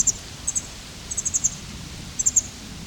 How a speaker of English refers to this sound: Wild bird.